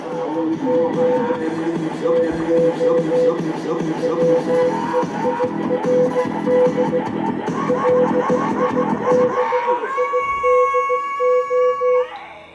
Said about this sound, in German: Kommt jetzt auf den Boxen vielleicht noch mehr zur Geltung als irgendwie auf was mit Bass? Aber den Morsecode kann man da schon so ein bisschen raushören.